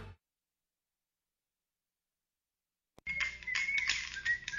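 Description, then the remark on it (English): After a stretch of silence, a man whistles a short, shifting tune over a busy, noisy backdrop, the bright whistled notes rising and falling clearly in the foreground. “I don't know, but it sounds to me like that whistling man with the bone.”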